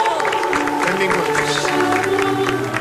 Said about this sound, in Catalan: Benvinguts a tots i un fort aplaudiment.